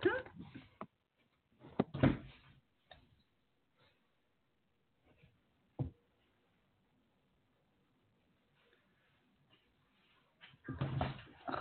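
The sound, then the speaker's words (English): A dog, Tara, jumps up and grabs the front door handle and the door opens: a few sharp clunks and rattles spaced apart, with brief murmured voices near the start and end. “And Tara jumps up and, like, grabs the handle and opens it.”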